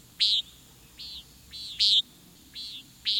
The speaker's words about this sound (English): This bird sound vividly evokes a warm summer evening. It's the flight call of the common nighthawk.